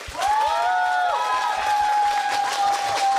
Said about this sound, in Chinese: 然后我们这样，我们先把几位老朋友请上来，好不好？让我们掌声欢迎吧